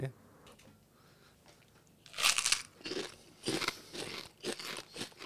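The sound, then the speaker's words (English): Loud, crisp crunching of crackers, a snack selling out in Singapore, being chewed, arriving in a series of irregular bursts after a quiet couple of seconds, each bite sharp and brittle. “They're better than the shrimp crackers.”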